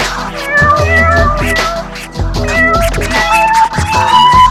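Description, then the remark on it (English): Repeated cat meows ring out over a loud, busy musical backing with deep bass notes, the meowing woven rhythmically into the music for the whole stretch. “Mommy, there is a cat in my keyboard, and I can't stop.”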